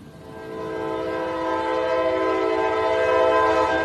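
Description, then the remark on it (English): A loud, sustained train horn blares with steady harmonic tones while the rumble of a passing train grows underneath, swelling slightly louder as it continues without a break, by the tracks in downtown Dalton. “In downtown Dalton, next to the tracks of the famous Chattanooga Choo Choo train”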